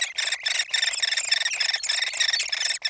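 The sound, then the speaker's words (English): A hairy woodpecker chick begs for food in its nest cavity deep within a dying tree, a continuous, buzzy, high-pitched chatter of harsh raspy squeals running together with only brief gaps, fairly loud and with no talking. “That's a hairy woodpecker chick in its nest cavity deep within a dying tree.”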